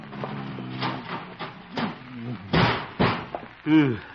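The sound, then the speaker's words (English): A heavy metal filing cabinet is dragged and knocked against a door to barricade it, with a couple of dull thuds and scraping bumps, mixed with someone's straining grunts and effort noises. “Filing cabinet.”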